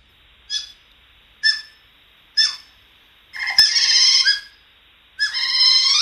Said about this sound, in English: I mean, otters, they do make a sound. We've got a little clip of the sound that they make.